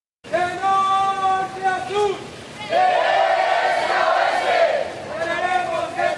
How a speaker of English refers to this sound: The sound there of teachers and students protesting last week in Iguala, Mexico, smashing windows, setting fire to the city's main government building